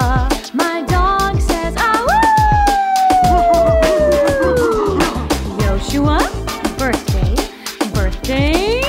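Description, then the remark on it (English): A dog lets out one long, drawn-out howl that swoops up and then slowly sinks. It is loud, over a steady, beat-driven happy birthday music track. “My dog says, to you, Yoshua.”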